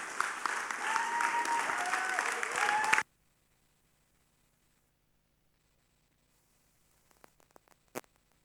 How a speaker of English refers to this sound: So it's a real privilege to have him here speak to us. I'd just like you to spontaneously stand up and give him a round of applause and cheers.